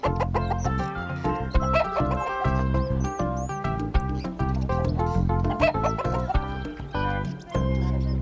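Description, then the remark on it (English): A black hen named Mondi clucks over and over in quick, uneven bursts, fairly loud, with a busy, steady backdrop and no one speaking. “Panda's grandma had one black hen.”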